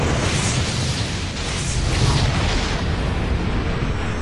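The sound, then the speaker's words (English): A compound explodes, heard from half a kilometer away, with a massive roar like rolling thunder, a dense, loud, low rumble with crackling noise that holds steady for several seconds without fading. No voices are heard. “The squad was 0.5 kilometer out when the compound blew with the sound of a thunderclap.”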